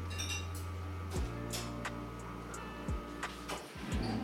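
A coffee machine hums steadily as coffee runs out into a glass, broken by a few light glassy clinks and clicks. Nobody speaks.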